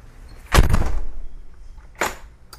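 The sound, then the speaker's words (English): A door shuts with a solid thump that rings briefly, followed about a second and a half later by a lighter knock and a faint click, with no one talking. “I'll just close the door and we'll begin.”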